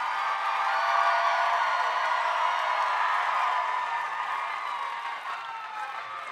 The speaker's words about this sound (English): I missed your applause. Is it about equal with how mine was?